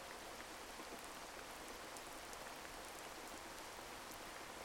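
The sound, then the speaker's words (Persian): Steady rain falling, a dense continuous patter with scattered brighter drops ticking on a surface, even in loudness throughout, with no voices. “تصور کنید صدای بارون داره خستگی‌ها و نگرانی‌هاتون رو می‌شوره و با خودش می‌بره.”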